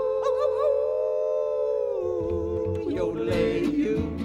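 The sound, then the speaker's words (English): A long, wavering coyote-style howl, sustained and fairly loud, with the pitch sliding and dipping, sung by a human voice over steady musical accompaniment. “We're gonna hoop and holler and howl at the moon.”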